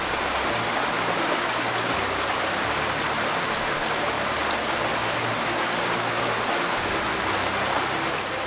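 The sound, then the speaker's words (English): Steady, full rushing of flowing water fills the whole stretch at an even level, with no voices and no distinct splashes or breaks in the flow. “When they came up out of the water, the Spirit of the Lord suddenly took Philip away.”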